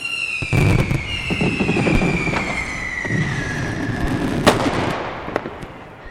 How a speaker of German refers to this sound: Als nächstes zündete Maxel eine Riesenbatterie an und das klang so.